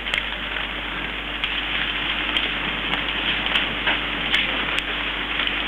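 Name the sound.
light rain falling outdoors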